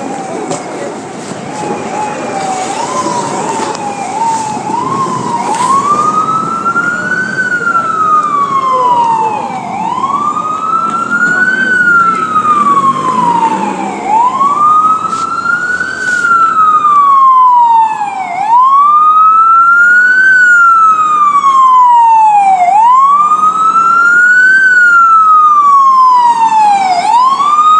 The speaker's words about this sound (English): A classic example there, an ambulance trying to get through the traffic.